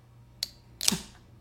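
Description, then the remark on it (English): A sharp metallic click, then a moment later a brief, loud burst of hissing fizz as a pressurized triple espresso dark coffee beer, brought home on a plane, is opened, fading quickly. No one speaks. “Oh, geez, this had some air to it from the plane. Hopefully this doesn't get all over me.”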